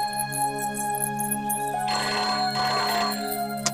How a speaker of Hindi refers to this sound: अरे लगता है चंदर बैजी का फोन आ गया। मैं देखती हूँ।